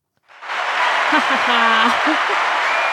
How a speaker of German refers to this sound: Und genau, dann wird am Ende nochmal geklatscht. Und dann stehen alle auf und gehen. Wie wird geklatscht? Mit den Händen.